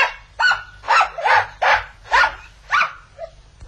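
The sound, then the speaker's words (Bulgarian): A small, playful, restless spitz dog yaps about half a dozen times in quick, uneven bursts, fairly loud, with a low growl rumbling beneath the barks and no talking. “Само че шпицът е много игрив и неспокоен. А, внимавай, миличко, и престани да ръмжиш.”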